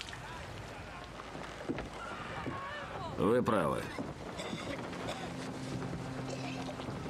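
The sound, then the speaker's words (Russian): Steady wind and sea ambience aboard a sailing ship on the open sea, a constant rushing wash throughout, with a brief loud horse whinny midway and a short line of speech over the background. “Еще один чудесный день в открытом море.”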